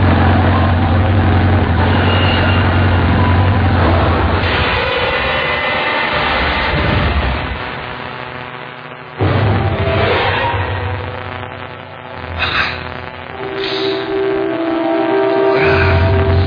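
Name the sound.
motorcycle engine idling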